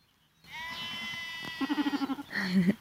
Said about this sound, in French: Mais je suis dans un champ de 2 hectares, peut-être un peu plus. Il y a toutes les brebis et les agneaux éparpillés, ça mange un peu. Il a plu, donc ça s'ébroue.